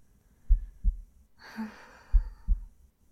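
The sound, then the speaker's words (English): A muffled human heartbeat thumps in two lub-dub pairs, with a soft breathy exhale drifting in between the beats. “Listen to my heartbeat and drift off.”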